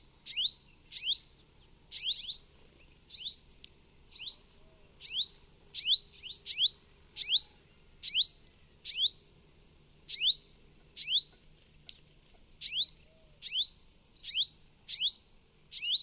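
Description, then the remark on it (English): At least two purple sunbirds at a desert oasis in Oman give a rapid series of sharp, high-pitched chips, repeated steadily about once a second, with paired notes, in an otherwise quiet setting. “In this recording, made at a desert oasis in Oman, you can hear at least two purple sunbirds calling.”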